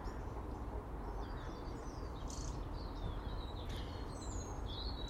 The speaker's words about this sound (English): Loads of bird song this morning.